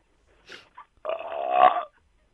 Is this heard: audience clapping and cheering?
no